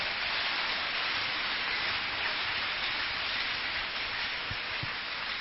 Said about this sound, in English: Now that one be minister. Let's clap hand for this minister now.